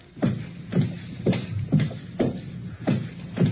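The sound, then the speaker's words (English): Footsteps walk at a steady, unhurried pace, about seven heavy shoe strikes on a hard floor, moderately loud, with no voices. “Footsteps.”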